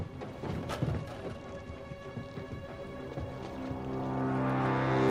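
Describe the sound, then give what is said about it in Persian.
A boat engine is started, clattering and catching amid splashy background noise, then its steady droning hum grows louder and more even over the final seconds. “باشه، ولی اول باید موتور را بندازم.”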